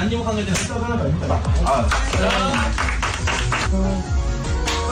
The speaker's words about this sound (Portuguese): Mas para já, acho que é interessante pelo som vocês avaliarem o nível de intensidade das chapadas que são dadas neste estabelecimento. Vamos ouvir.